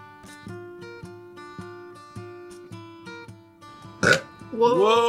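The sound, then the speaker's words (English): A loud, drawn-out belch erupts near the end, after a few seconds of steady, rhythmic tonal notes and a sharp burst of noise. “I'm just going to belch.”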